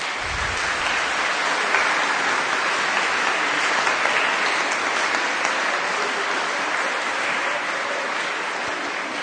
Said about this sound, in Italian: Adesso, come vi esprimiamo il nostro volervi bene? Vi esprimiamo facendovi un bel applauso. Bravi.